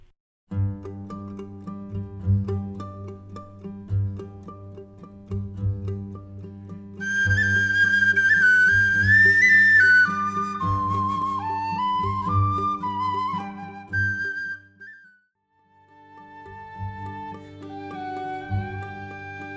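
A bright, lilting whistle carries a folk melody over steady fiddle and strummed guitar, the tune rising high and trilling before settling into a gentle, lower passage. No voices.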